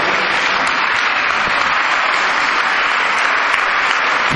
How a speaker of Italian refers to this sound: Va bene, guardate, un applauso va bene... e fa piacere,